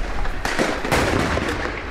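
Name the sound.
gunfire exchange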